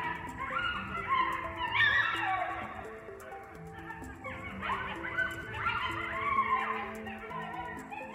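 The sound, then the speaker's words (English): A pack of coyotes howls and yips together, their high wavering cries sliding up and down and overlapping in a continuous chorus for several seconds, with no talking. “And when we hear them howling at dusk, it's easy to believe that there are dozens nearby, when in reality, it's probably just a few.”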